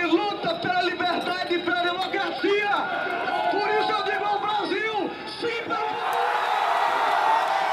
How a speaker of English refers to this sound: The crowd at one pro-impeachment rally erupted into cheers when it became clear Brazil's Congress was overwhelmingly in support of her ouster.